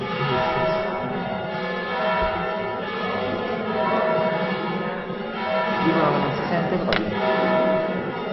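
Church bells ring continuously throughout, their overlapping tones forming a dense, sustained wash of sound that stays fairly loud and steady from start to finish.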